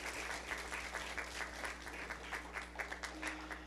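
An audience applauding steadily at a church service to welcome a new member joining by transfer of letter, dense overlapping claps filling the room at moderate volume, with a low hum underneath and no voices standing out.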